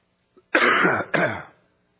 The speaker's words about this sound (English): And I'll apologize once for the coughing, and then we'll just put up with it from here on out.